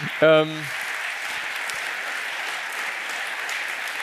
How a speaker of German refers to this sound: Also das ist etwas, ich höre leichten Applaus, da kann man auch durchaus klatschen.